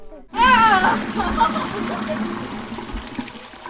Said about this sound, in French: C'est bon, le robinet ! T'entends ? Voilà.